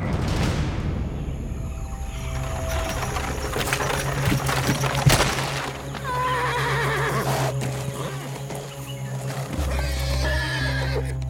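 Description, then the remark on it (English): Horses pulling a carriage whinny loudly and repeatedly, their neighs rising and falling over a steady low rumble, with hooves clip-clopping, as the carriage stops stuck in mud at the edge of the Dundakaranya forest and the horses strain but cannot go further. “Rama lurched forward as the carriage stopped in the mud. The horses whined, their muscles strained, but they could go no further.”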